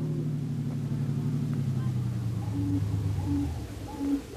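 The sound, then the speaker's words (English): A car engine hums steadily as the vehicle drives along toward the waterfront, a low continuous rumble that shifts slightly in pitch, with a few short hooting tones near the end. “Don't drive so fast, Brother Harry. We don't want to attract the police.”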